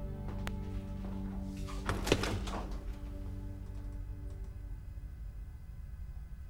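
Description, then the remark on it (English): A refrigerator door in an empty kitchen opens with a soft click and a brief rustling thunk, set against a steady low electrical hum that continues afterward; the fridge is empty but for a bottle of champagne. No one speaks. “She looks around and walks over to the fridge. She opens it.”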